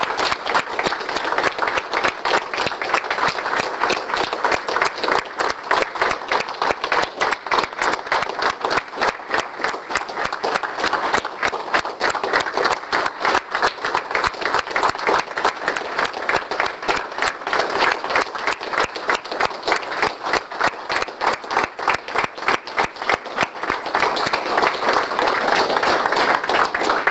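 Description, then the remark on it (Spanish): An audience at a church service applauds Jesus of Divine Mercy, many hands clapping in a dense, even patter that holds at a fairly loud level for nearly half a minute, with no voices rising above it. “Vamos a dar un grande aplauso a Jesús Misericordia.”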